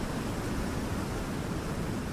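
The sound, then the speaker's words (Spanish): Steady, unbroken rush of water like ocean waves washing, a dense hiss with a low rumble that holds an even loudness throughout, with no voices. “Escucha, agua, escucha, ¿no? Tú, escucha, es agua.”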